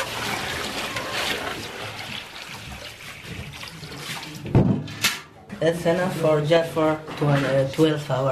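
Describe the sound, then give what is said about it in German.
Water splashes and trickles steadily for several seconds as it is poured from a bucket, water carried from a dirty canal up a stairwell to a family's apartment in Wardat for cooking and washing, followed by a sharp knock and then a person speaking. “Hier in Wardat müssen … und seine Mutter mit Eimern Wasser vom schmutzigen Arik durchs Treppenhaus hinauf in die Wohnung tragen”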